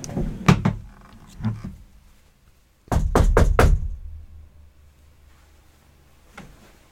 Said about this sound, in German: Soll ich mal klopfen? Klopf mal und guck, ob es zurückklopft.